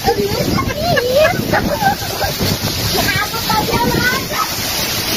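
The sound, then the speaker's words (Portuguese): Heavy hail pours down during a strong rainstorm in the village of Maria Preta, Lago da Pedra, in a dense, continuous roaring clatter that stays loud throughout, while a man's voice talks excitedly over it. “É gelo, meu filho. E agora granizo.”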